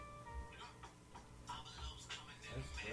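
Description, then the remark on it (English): Odd, irregular ticking bursts from a phone, soft and scattered over a few seconds, with a faint high tone lingering at the start and some muffled voice-like murmur underneath. “There's weird sounds coming from. Is that your phone?”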